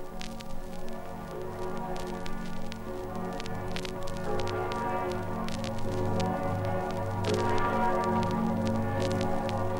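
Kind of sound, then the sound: signal or alarm, cathedral church bells ringing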